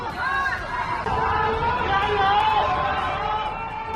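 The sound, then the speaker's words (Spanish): Hundreds of neighbors confined at home in Wuhan, China, shouting and calling out from one skyscraper to another, their raised, tonal voices blending into a loud, steady crowd hubbub that carries on without pause for the whole stretch. “Son las voces de cientos de vecinos de Wuhan, cientos de vecinos que están incomunicados, que llevan días confinados en sus casas, que gritan para hacerse oír de un rascacielos a otro, para darse ánimo, para cantar, para no sentirse tan solos.”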